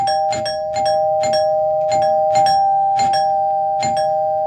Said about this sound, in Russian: Но в это время из передней послышался громкий, очень длинный звонок.